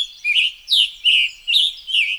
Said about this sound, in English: Now, we hear a scarlet tanager.